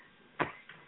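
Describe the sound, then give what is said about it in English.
A sharp hand slap rings out once as a wrestler slaps his tag team partner's hand to tag him into the ring, followed moments later by a softer second smack, with no voices and only quiet background between them. “Hear this here. I'm slapping his hand.”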